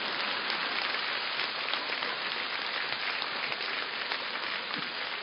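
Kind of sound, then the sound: crowd, audience applause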